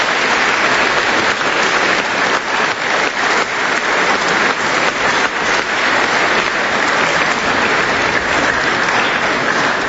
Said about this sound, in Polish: Gromkie brawa dla naszego prelegenta.